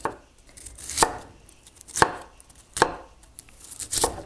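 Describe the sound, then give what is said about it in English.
A knife slices fennel into relatively thin slices on a cutting board: four crisp, crunchy chops spaced roughly a second apart, with quiet gaps between and no one speaking. “I'm just cutting these fennel into little relatively thin slices, but not making myself crazy.”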